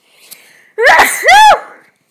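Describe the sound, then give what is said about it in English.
A single big, loud sneeze: a quick sharp inhale followed by an explosive burst that trails off, with no talking. “Who knew you were going to get a nice big sneeze for free?”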